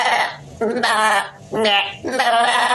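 goat bleating

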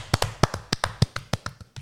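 slow clap

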